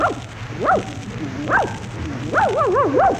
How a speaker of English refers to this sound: look at that cute little dog. Oh, isn't it a darling? Come here, doggy. Come here, you cute thing, you. What's the dog's name? Rim Dom Dom.